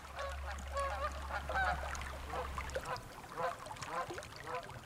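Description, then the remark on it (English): A flock of geese honks repeatedly in overlapping, nasal calls near ponds among hummocks at Mount St. Helens, with a steady low rumble underneath for the first few seconds. “Back among the hummocks and ponds and geese and toads”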